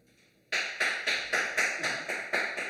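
A single person, called the teacher, claps steadily in applause at the end of a live show: about nine sharp, bright claps at an even, quick rhythm after a brief quiet start, with no voices.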